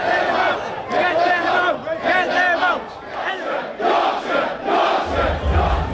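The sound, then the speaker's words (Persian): A dense, loud crowd of rioting protesters in Britain, mostly right-wing, rioting against asylum seekers and attacking mosques and hotels housing them, shouts and yells continuously in overlapping, harmonic voices, with surging bursts of chanting-like cries and a low rumble joining near the end. “معترضان که بیشتر آنها افکار دستراستی داشتند با حمله به مساجد و هتل‌هایی که محل اسکان پناهجوها بود این شورش‌ها را شکل دادند.”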